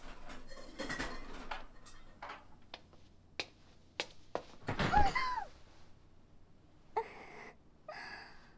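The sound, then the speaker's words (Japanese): A cooking pot clatters on a stove: scattered sharp metallic knocks and thunks, then a louder clanging burst with a brief ring, followed by a couple more clinks. No one speaks. “あ、いけません、お鍋が。”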